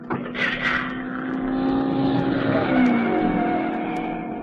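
A loud, continuous engine roar from a speeding racing car, its pitch rising and falling slightly as it races past, with no voices.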